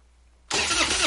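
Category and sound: vehicle, truck engine cranking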